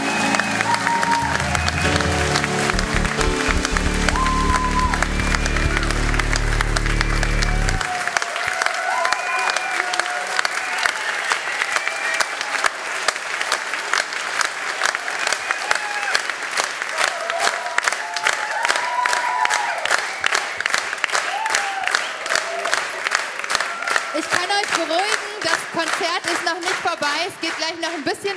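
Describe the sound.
Sustained audience applause with dense, rapid clapping that stays loud throughout. A low rumble and some musical tones sit under it for the first few seconds, with faint voices and cheering mixed in.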